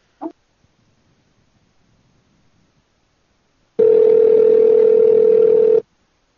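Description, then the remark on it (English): A short click, a few seconds of near silence, then a loud, steady dial tone holding one low pitch for about two seconds before cutting off abruptly, heard after a Skype call was hung up. No one speaks. “Yeah, I'm noticing that Skype's having a problem lately with releasing the calls after they hang up.”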